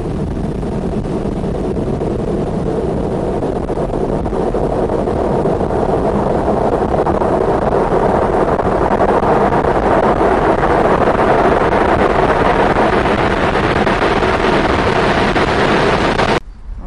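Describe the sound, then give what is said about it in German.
Strong wind roars steadily across the microphone, a loud, continuous rushing and buffeting that swells slightly toward the end before cutting off abruptly, with no voices. “Tatsächlich ziemlich windig heute.”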